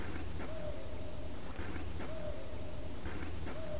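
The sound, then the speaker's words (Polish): A male tawny owl hoots repeatedly, about every second and a half. Each call is a soft, steady hoot over a quiet night backdrop with faint hiss. “Słychać puszczyka, samca, tak?”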